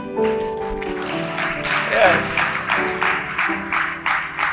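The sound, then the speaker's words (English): Thin, scattered clapping from just two people in a church audience, irregular and brief, with some voices and crowd murmur mixed in underneath. “You did not even clap. Only two people clap.”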